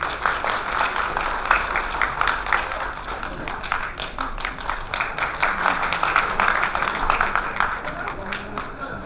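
An audience claps steadily for about nine seconds, a dense, even patter of many hands that stays fairly loud throughout without dying away.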